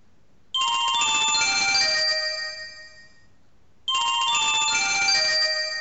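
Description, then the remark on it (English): A bright, chiming mobile phone ringtone called Brocade plays in two bursts, each sustaining a dense cluster of tinkling high tones for a few seconds before fading, with a brief pause between them. No voices. “This is Vanamond with the contents of my ringtone folder.”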